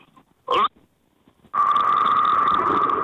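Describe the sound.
A person imitates an old car horn with their voice over a hands-free phone in a car: a short nasal honk, a pause, then a long, steady, loud blaring tone held for over a second.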